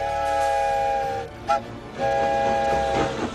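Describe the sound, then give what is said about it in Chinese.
A steam train whistle sounds two long, loud blasts separated by a brief toot, with the low rumble and clatter of the moving train underneath, as Dewey travels by train across the country campaigning for support. No one speaks. “杜威亦坐火车到全国各地去争取支持”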